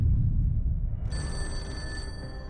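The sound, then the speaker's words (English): A telephone bell rings once in a single bright, buzzing burst lasting about a second, heard over a low, steady room rumble with no voices. “Mary, are you upstairs? Can you get the phone?”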